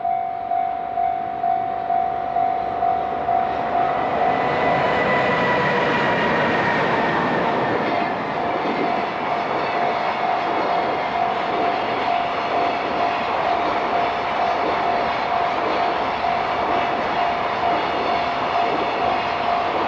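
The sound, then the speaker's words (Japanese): A long freight train heading to Mizusawa Station in Oshu, Iwate Prefecture, Japan, rumbles steadily past on the rails, loud, with rhythmic clacking over the tracks and a sustained tonal whine running through the whole passage; clear sky, 29°C, wind 3 m/s. “貨物列車が水沢駅に向かいます。”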